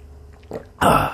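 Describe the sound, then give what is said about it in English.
A loud slurp as someone sips a drink into a microphone: a small wet sound, then a sharp, noisy rush of air and liquid lasting about half a second. No one speaks. “I tried to slurp into the microphone.”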